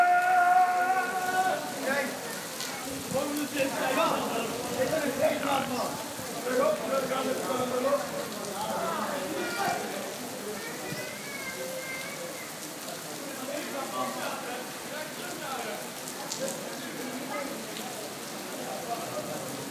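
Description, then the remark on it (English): Heavy rain pours down during a thunderstorm in a steady, dense hiss that never lets up, with indistinct voices murmuring underneath at times. “It's coming down in about 3 feet. And stair rods.”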